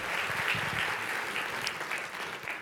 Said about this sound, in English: And so let's put our hands together for the Creative Arts Ministry, the Worship Arts Ministry.